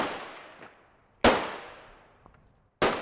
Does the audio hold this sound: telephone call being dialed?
no